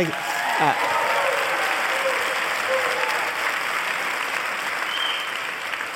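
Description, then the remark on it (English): A large live audience in San Francisco claps steadily, a dense, even wash of applause holding at the same loud level for the full six seconds, with a few brief whoops or voices rising out of it. “This is a fantastic crowd.”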